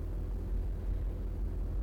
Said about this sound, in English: and going to the shunting yard, and a steady drone of diesel engines can be heard all the time.